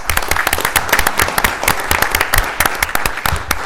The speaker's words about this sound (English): If you'd please stand, give you a big round of applause.